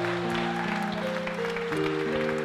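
Steady audience applause at the end of a weekly show for its special musical guest, a dense crackle of many hands clapping at once, running for the whole stretch over sustained chords of music playing underneath.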